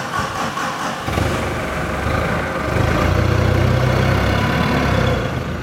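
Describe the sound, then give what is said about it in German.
A forklift engine runs steadily as it drives to a large heap of potatoes in a storage hall, its low rumble deepening and growing louder partway through, with a reverberant sound and no talking. “fährt gerade mit dem Gabelstapler zu einem großen Kartoffelhaufen in der Lagerhalle.”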